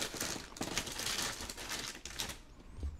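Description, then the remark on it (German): Snack packaging crinkles and crackles steadily for about three seconds, a dense, irregular stream of bright, dry crackles with no voices, softening slightly toward the end. “Oh, hört ihr eigentlich das Knistern, das ist so ASMR, ne?”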